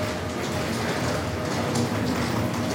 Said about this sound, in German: bin gerade in Würzburg am Bahnhof angekommen